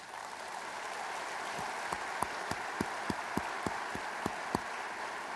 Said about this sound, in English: And we need to give them a round of applause.